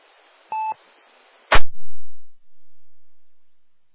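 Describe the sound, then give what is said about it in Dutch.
A single short electronic beep from a telephone sounds over a steady background hiss, followed by a sharp click as the noise cuts off into silence. “Volgens mij is die telefoon.”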